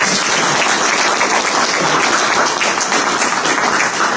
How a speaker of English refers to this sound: So welcome. Let's give them an applause of welcome.